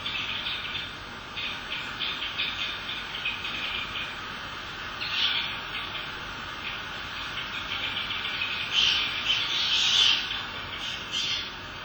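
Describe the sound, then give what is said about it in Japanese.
A steady stream of high, buzzy calls of bramblings, winter birds that breed in Siberia and come to Japan in autumn, as from a small flock, with brighter, louder bursts of chirping now and then over a soft outdoor hiss. No one speaks. “これはアトリです。”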